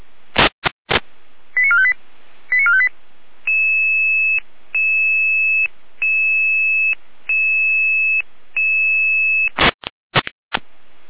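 Emergency dispatch alert beeps over a radio channel alerting a Red Cross ambulance unit in Saalfeld, Germany: short warbling chirps, then a steady, evenly repeating series of electronic tones, bracketed by sharp static bursts at the start and end.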